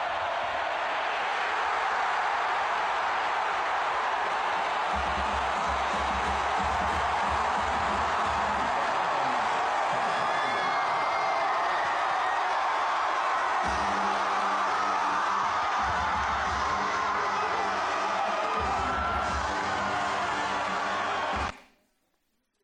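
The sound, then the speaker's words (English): A huge stadium crowd roars steadily and loudly throughout, nearly drowning out a marching band whose low brass and drums pulse faintly underneath, before the sound cuts off abruptly. “So I don't know if y'all heard, but there was even a full band playing there, and the crowd was just over all of it.”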